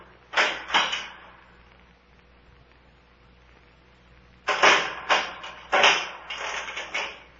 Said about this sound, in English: Shh. They're unchaining the door.